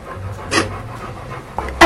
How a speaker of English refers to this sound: Oh. Starting to gag on it. Now she's actually squeezing on part of the straw to force the poop up out into her mouth.